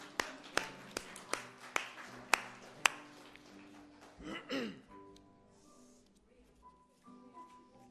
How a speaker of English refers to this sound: Yes, you could clap in the church.